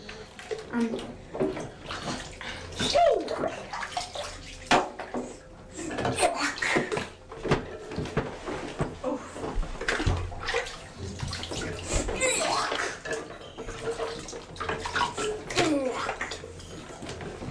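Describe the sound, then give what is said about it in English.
Water sloshes and splashes in a bathtub as a child plays a sink-and-float water game with a toy boat, with repeated irregular bursts of splashing and dripping, and the child's voice mixed in now and then. “It's sunk to the bottom of the bath.”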